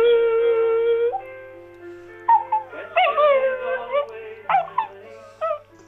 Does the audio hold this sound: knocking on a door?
no